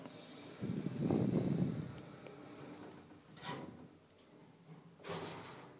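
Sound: elevator door sliding closed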